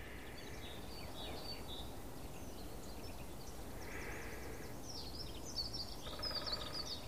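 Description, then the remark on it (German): Fast, melodic twittering of a songbird runs through the whole stretch, fairly faint over a steady wash of outdoor background noise. “Es ist so leicht fisselig, melodisch, schnell.”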